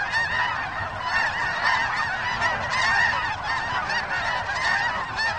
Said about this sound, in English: Our thanks to Cornell Lab of Ornithology's Macaulay Library in Ithaca, New York, for the featured bird songs